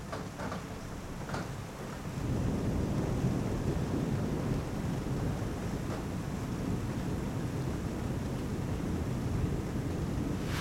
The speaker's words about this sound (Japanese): 春の雷ですね。これ以上近くに来なければいいのですが。